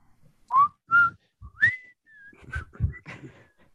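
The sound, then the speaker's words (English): Someone whistles a short, bouncy melody of the Andy Griffith TV theme tune, fairly loud, with several quick rising notes and some breathy, rough noise under the later phrases. “Who can whistle?”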